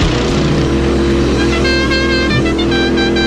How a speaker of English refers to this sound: Would you know what this car horn was immediately?